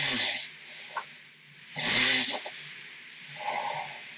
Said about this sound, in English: So it goes like all different snores. Oh, that's another one. Here it comes.